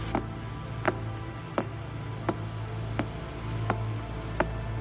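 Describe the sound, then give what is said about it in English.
Radio pulses from a rapidly spinning neutron star (a pulsar) rendered as sharp, evenly spaced ticks, about seven over a few seconds, clicking steadily over a low, droning hiss with no voices. “Some spin rapidly, beaming radio pulses into space.”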